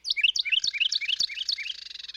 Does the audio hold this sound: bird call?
yes